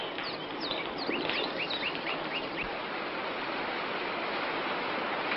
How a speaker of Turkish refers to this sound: Yağmur başladı.